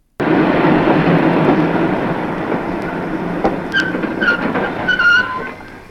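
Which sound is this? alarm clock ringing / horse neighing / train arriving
train arriving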